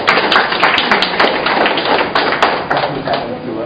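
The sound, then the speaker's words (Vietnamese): A crowd claps together in a dense, steady burst of applause that stays loud for a few seconds, with sharper individual claps popping out of the wash. “Ai lên đánh thức người ta dạy cái anh đó, chúng ta cho tràng pháo tay.”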